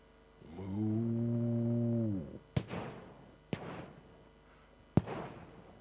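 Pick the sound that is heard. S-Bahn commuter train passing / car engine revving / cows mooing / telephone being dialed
cows mooing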